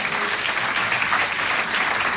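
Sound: audience applauding loudly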